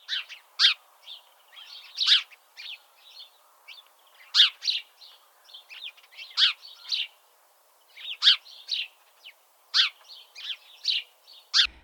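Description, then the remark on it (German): A house sparrow chirps repeatedly in short, bright bursts, a steady series of clear calls with brief pauses between them and no one talking. “Ja, das war's heute zum Haussperling oder auch Spatz.”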